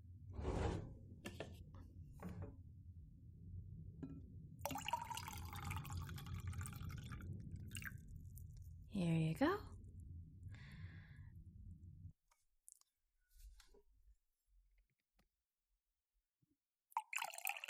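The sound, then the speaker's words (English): A drink is poured into two glasses, a steady splashing and gurgling stream that runs for several seconds before stopping. A voice speaks briefly, then it goes mostly quiet. “I actually brought you your favorite drink, so let me just pour one out for the both of us.”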